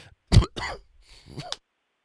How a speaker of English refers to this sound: You're still sick like me? I tell you, if I breathe wrong, I start coughing, and man, oh man, I mean, this is so frustrating. I feel okay. I just have this cough that won't go away, and it's just driving me nuts.